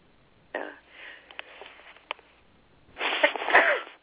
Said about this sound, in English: Excuse me, I just sneezed. I don't know if I was able to keep that off the air or not.